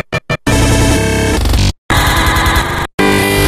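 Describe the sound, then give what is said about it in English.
A harsh, dense burst of noise chops on and off in rapid stutters, then locks into held, frozen tones broken by abrupt dropouts into silence. Loud and electronic, with no voices. “Stutters and freezes.”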